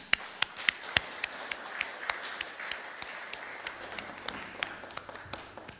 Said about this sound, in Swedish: Jag tror vi kan få avsluta med en riktig applåd för all vacker sång och musik idag.